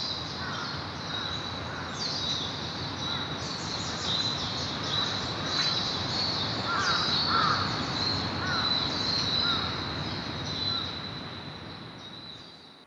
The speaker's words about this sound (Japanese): 朝の5時過ぎ、日の出とともにさまざまな鳥も鳴き始め、また新たな一日が始まろうとしています。